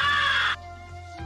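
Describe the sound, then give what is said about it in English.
A single harsh, raspy crow call made by growling while blowing through a game call, loud, lasting about half a second before cutting off, followed by a quieter low hum. “Through your call, it will sound like this.”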